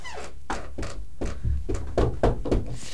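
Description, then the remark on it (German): Someone knocks on a door about eight times in a fairly steady rhythm, each knock a dull, solid thud with a low boom behind it. No one speaks. “Kommen Sie erst klopfen.”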